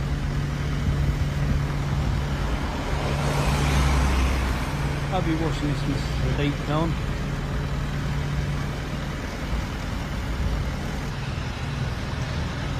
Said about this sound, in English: Quite ironic, he's going on a diesel lorry.